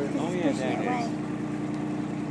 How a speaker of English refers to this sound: Look at that, Phil, like a waterfall sound